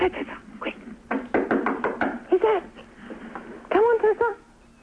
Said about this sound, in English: Oh, we definitely heard something. The squeaking of a rubber duck.